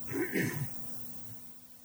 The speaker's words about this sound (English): First off, excuse me if I start coughing. I came down with a nice little cold because of the airplane, and keep clearing my throat, so I apologize in advance for that.